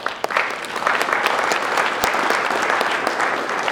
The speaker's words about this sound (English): This award is for everyone, every one of you. So a big round of applause.